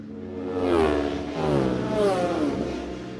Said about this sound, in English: You could just hear that distinctive change of note as number 8 Dan Sale went through on that Falcon Electrical 250 Yamaha.